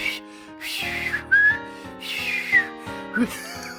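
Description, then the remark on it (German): Someone whistles a short, warbling tune in an exaggerated showy manner, imitating Loriot's art whistler (Kunstpfeifer), fairly loud, with breathy airy noise between the sliding notes. “Kannst du nicht den Kunstpfeifer von Loriot, den Kunstpfeifer?”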